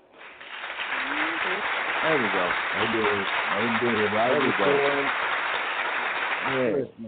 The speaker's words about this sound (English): Enjoy that round of applause, because after that you need your ass whooped.